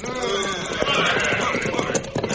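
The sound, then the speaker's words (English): Several horses' hooves of quite a few riders clatter in a dense, steady rush, as if the riders are approaching at a run, with a busy, noisy texture throughout and no clear voices. “Some riders come this way, Cisco.”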